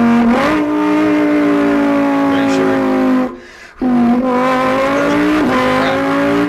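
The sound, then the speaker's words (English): A man imitates with his mouth a Lamborghini Huracan with a 5.2-liter V10 engine revving, holding a loud buzzing engine tone that rises and dips, breaks for a quick breath, then roars on again. “I make really cool, accurate car sounds with my mouth.”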